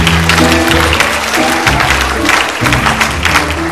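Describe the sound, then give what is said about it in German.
Steady audience applause, a dense wash of many hands clapping, runs throughout while sustained low musical chords play underneath at fairly loud volume. “Ein Applaus, ein Applaus!”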